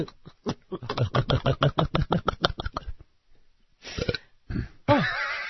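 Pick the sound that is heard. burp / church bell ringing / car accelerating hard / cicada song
burp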